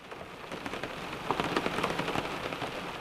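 Steady rain falls in a dense, continuous patter, with brief clusters of heavier drops striking a surface midway through. No voices, just the even hiss of the downpour.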